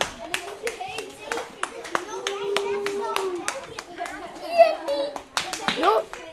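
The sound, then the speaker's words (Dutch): A small group of children clap in scattered, uneven bursts, sharp hand claps rising and falling over several seconds while young voices chatter and call out underneath. “Mooi, applaus.”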